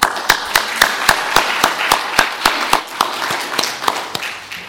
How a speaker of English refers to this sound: So I want to thank you and ask for a round of applause.